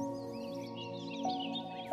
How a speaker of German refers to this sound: Und hörst du auch, wie munter und fröhlich die Vögel zwitschern? kein Wunder bei diesem traumhaften Sonnenschein.